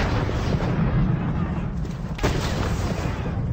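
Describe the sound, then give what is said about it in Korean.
Cannon fire rumbles in a loud, dense, continuous barrage, with one sharp blast cracking through near the middle, all heavy, with no voices: George Washington's American army firing cannon at buildings in Trenton where Hessian mercenary troops had fled. “건물을 향해 대포를 쏘아대자 머지않아 해시안 용병 부대는 항복하고 말았습니다.”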